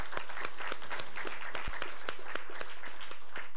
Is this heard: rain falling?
no